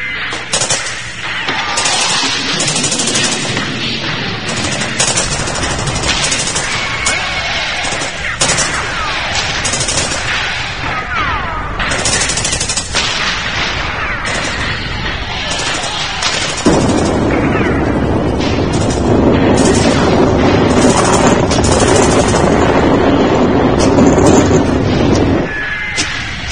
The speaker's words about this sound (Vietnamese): BM-16, đại liên M-60, lựu đạn nổ ầm ầm, nhưng cũng không át được tiếng la vang lừng của lính biệt động.